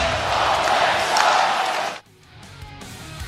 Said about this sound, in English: In case you couldn't hear the fans there in Arizona at Mullet Arena, they were chanting, yelling is more like it, at the top of their lungs, Salt Lake sucks! Salt Lake sucks! Salt Lake sucks!